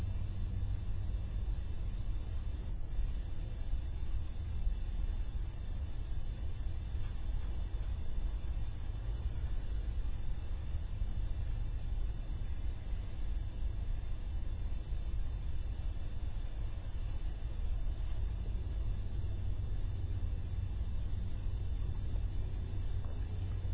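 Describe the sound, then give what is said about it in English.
A steady, continuous low rumble of traffic on a relatively big road relatively close by the Armadale Hospital, a dense hum with no distinct vehicle passes standing out, holding an even level throughout without any voices. “in that process of the five senses experiencing this room in the Armadale Hospital with a relatively big road relatively close by, the air conditioning and heating system making its sound, the clock making its sound.”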